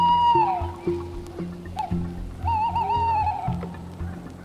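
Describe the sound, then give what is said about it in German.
A small owl gives two drawn-out, whistling calls, the first dipping in pitch, the second wavering, set against a steady low droning hum in the background. “Das ist ein Käuzchen.”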